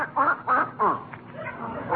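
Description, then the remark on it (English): A duck named Henrietta quacks three times in quick, evenly spaced nasal bursts, clear, followed by a quieter stretch of faint background murmur. “Okay, I'll take that silly duck out for a walk again.”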